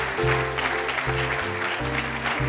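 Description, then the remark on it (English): An audience claps in sharp, clipped bursts with a steady, rhythmic pulse, a dense and fairly loud wash of hand claps that stays even for a couple of seconds with no voices over it. “Oh, it's staccato clapping. I love that.”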